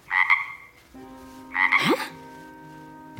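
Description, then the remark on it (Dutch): Two loud, raspy croaks from a large green frog under a bed, about a second and a half apart, each a harsh buzzing burst, with a faint steady tone lingering underneath and no talking. “Ze hoorde een kikker, maar ze zag er geen.”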